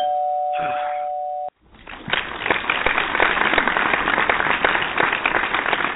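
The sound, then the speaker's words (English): A doorbell rings once with a steady, sustained electronic tone, then cuts off abruptly and gives way to loud, continuous clapping and cheering applause. “I think someone's at the door. Oh, my doorbell.”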